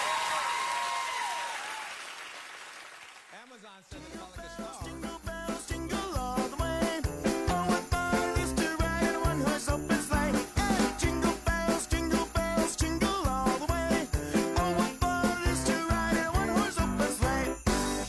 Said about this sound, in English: Yes, a Thanksgiving song, Jingle Bells. I hate to burst everybody's bubbles, but that's what it is.